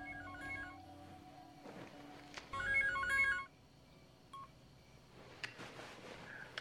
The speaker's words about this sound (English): Back home, Needy hurries into her room, dumps her handbag, and makes a call on her cell phone. In bed, Chip wakes up and fumbles for his phone.